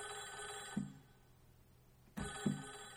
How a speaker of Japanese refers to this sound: あ、なんか電話のようですね。